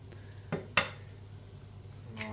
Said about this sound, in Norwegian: Nå har du lyden av at det er noen egg som blir knust opp i pyttipanne-miksen her.